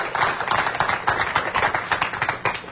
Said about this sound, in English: So let's give our pro athlete a round of applause.